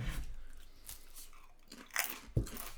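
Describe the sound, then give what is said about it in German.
Crisp crunches of people each biting into and chewing a large potato chip, a series of irregular, dry cracks with a sharper, louder crunch near the end; no talking. “Nein, ich glaube, nimm mal jeder noch einen Chip. Okay. Oder? Ja. Ein möglichst großes.”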